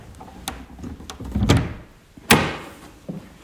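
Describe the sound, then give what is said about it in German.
A door behind a curtain is opened with rattling, creaking handle and latch noises, then a sharp knock-like thud near the end, loud, with no voices. “Hier hinter dem Vorhang ist eine Tür. Mach die mal auf.”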